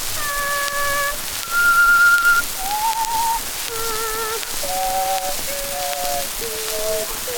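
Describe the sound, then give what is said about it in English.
Someone whistles three tones at once, a stacked chord of pitches held in short steady phrases that step up and down, with no talking, over a constant soft hiss. “You ever hear me do those three tones at once?”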